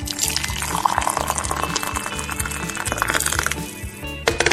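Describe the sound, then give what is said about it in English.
At 5:30 a.m., water pours steadily into a dry coffee pot to refill it over a low droning hum, with a few light clinks of glass and metal as the pot is handled, then a brief rattle at the end. “Oh, the coffee pot is dry. Let me fix that.”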